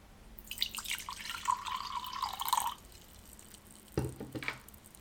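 Hot water is poured steadily into a cup for a father for about two seconds, its gurgling pitch rising as the cup fills, followed by a soft clunk a moment later. Fairly clear, with no talking.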